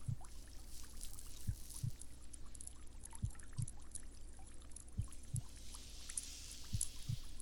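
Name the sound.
heartbeat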